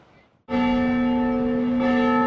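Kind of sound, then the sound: signal or alarm, mission church bells ringing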